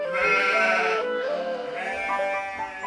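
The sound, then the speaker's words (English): Village goats bleat in a run of wavering, nasal cries that overlap one another, fairly loud, with no one speaking, as the village goat herder comes to get them to take them up the mountain. “Every morning, Peter came to the village to get the goats.”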